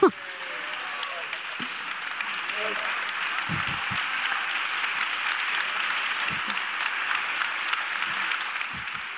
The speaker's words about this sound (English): Big round of applause for our winners, everyone. Thank you so much.